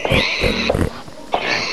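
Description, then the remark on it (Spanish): A pig oinks and grunts in a few snorting bursts with short gaps between them, fairly loud and with no talking. “Un cerdo rosa mirándome a mí.”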